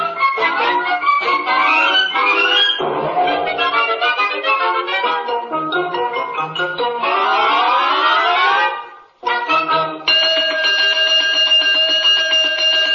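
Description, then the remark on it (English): A loud, continuous electronic 'cosmic alarm' sound effect from the radio play The Undecided Molecule, with clashing tones and rising, sweeping pitches, cutting out briefly before resuming as a steady, blaring chord of sustained high notes. “Oh, dear. Oh, dear. The cosmic alarm.”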